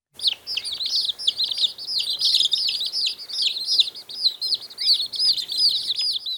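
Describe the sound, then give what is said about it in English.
Baby chicks peep continuously in rapid, high-pitched chirps that overlap into a busy, steady chorus, with no talking. “It's a baby chick. Peep, peep, peep, peep.”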